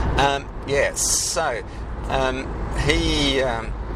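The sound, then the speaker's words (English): Steady low rumble of road traffic from inside a moving car as another car merges alongside, running under a person talking throughout. “I'm just trying to not crash into this car merging.”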